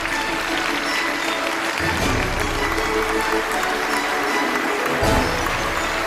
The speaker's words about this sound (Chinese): 掌声有请本期开讲嘉宾